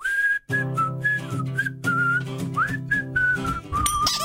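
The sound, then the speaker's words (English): A clear whistled melody of the dreidel song, with short bouncy phrases and a brief pause near the start, played over a steady low musical accompaniment. “It's the dreidel song. It's spin the dreidel.”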